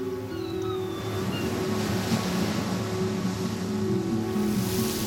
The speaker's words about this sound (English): I'm here in Kodiak Island. Wind's blowing, it's overcast.